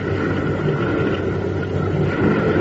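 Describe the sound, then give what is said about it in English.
A steady, rumbling motor drone with a low throb from approaching boat engines, holding fairly constant and swelling only slightly toward the end. No one speaks. “Sounds like those boats are getting a little closer.”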